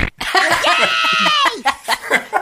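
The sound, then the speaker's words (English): A buzzy, drawn-out fart sound effect with a wavering tone lasts just over a second, followed by a few short bursts of chuckling voices. “Because the fart noise is sort of how I felt about Willisha, and I'd kind of been complaining about that for a while because initially I thought they had chemistry, but then it just kind of didn't work for me.”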